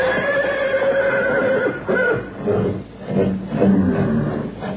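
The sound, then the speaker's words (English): Several horses at a ranch at night neigh and whinny in agitated bursts, overlapping loudly, with a restless, uneasy quality and no speech. “When I heard the horses getting so restless, I took a flashlight and a rifle and went for a look-see.”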